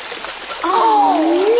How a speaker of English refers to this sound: Look, it's a beautiful waterfall.